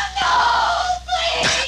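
human body sound, woman screaming

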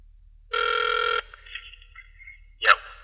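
signal or alarm, telephone ringing

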